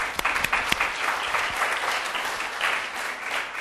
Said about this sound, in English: So I want you to give yourselves an applause for your heroism.